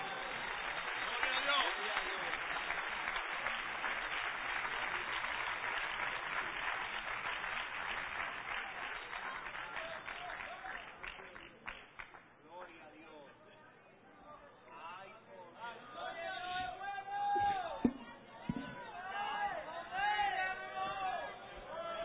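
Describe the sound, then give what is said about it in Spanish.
A church audience breaks into sustained, dense applause for God for about twelve seconds, then the clapping fades into murmuring voices and scattered shouts from the crowd. “¿Cuánto le dan un aplauso al Dios del cielo?”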